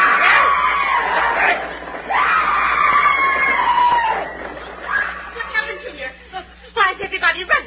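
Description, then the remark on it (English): A crowd of people shouting and screaming as they run, loud overlapping yells in long sustained waves that break into shorter, choppier bursts of cries toward the end. “Everybody running. I can't understand it.”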